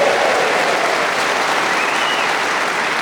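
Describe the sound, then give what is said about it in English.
Steady, dense applause from a crowd for Colin Sell as he is revealed, a broad even wash of clapping holding at a constant loud level for the full three seconds with no voices over it. “So let's have a big round of applause for God's sake.”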